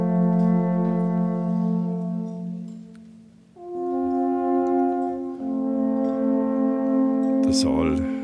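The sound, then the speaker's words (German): Several alphorns play long, sustained low notes together with the lights dimmed almost to darkness at the Nockerberg before a Lenten speech, shifting pitch a couple of times in a slow, solemn phrase that fills the space before ending in a brief noisy swell. “Das Licht getaucht, fast dunkel, Alphörner erklingen, eine feierliche Stimmung.”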